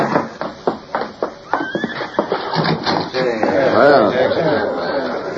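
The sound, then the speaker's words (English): Horse hooves clop in a quick, irregular rhythm at a cabin set among trees as a man takes charge of the horses, then a horse lets out a loud, wavering whinny, with a faint murmur of voices in the background. “A man stepped from the house and took charge of the horses.”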